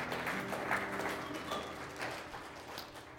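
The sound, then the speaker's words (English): An audience applauds the news of 50 backpacks from a backpack program, a steady wash of many hands clapping together at an even, moderate loudness for the whole few seconds, with no voices on top. “Yeah, clap. That's awesome.”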